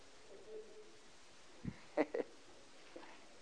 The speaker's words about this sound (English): Oh, hallelujah. It's good to hear pages turning on a Tuesday night.